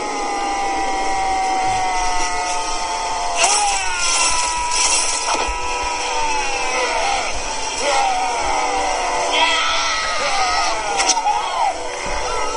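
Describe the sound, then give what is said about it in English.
A long, unbroken yell of about 18 seconds from a film's final fight scene holds for the whole stretch, loud, its pitch wavering and straining, with sharp impacts and crowd-like noise bursting in underneath. “This is the 18-second yell from the final fight scene.”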